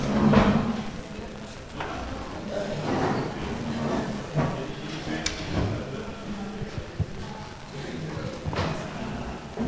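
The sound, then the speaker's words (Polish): A door to an adjoining hall is pushed shut with a few dull thuds and knocks over a steady murmur of people talking and shuffling in the background, during a municipal meeting in Kętrzyn, Poland. “Mógłbyś zamknąć drzwi na tamtą salę?”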